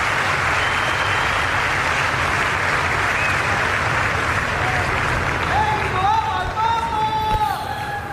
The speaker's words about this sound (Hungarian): Kedves Máre Rádió hallgatók, a szokott módon tapsal üdvözlik, köszönik meg a Szent Atya mai katekézését